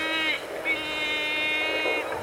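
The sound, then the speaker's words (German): Strong wind roars steadily over a phone line, a constant rushing noise with thin, high whistling tones that drop out briefly and return. Nobody speaks. “Ist das Wind?”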